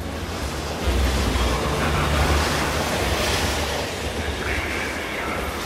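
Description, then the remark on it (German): A train travelling to Oxford rolls along the rails with a steady rumble and broad rushing noise, holding at an even loudness throughout without any voices. “Mit dem Zug reist Irmina nach Oxford, wo sie von Howard erwartet wird.”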